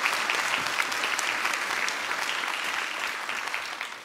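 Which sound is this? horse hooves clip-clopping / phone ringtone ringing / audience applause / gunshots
audience applause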